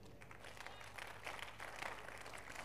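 audience clapping in praise

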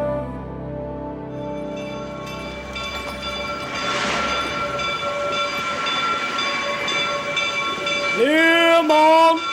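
train arriving

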